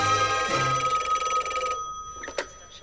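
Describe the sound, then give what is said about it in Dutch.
An old-style telephone bell rings with a rapid metallic trill inside a house on the Rue de Rome in the Europe quarter, then stops abruptly, followed by a brief clatter as if the receiver is lifted. “En als je heel goed luistert, dan hoor je in een van die huizen aan de Rue de Rome de telefoon rinkelen.”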